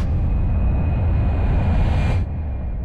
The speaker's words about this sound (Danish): Vi kører bil lige nu.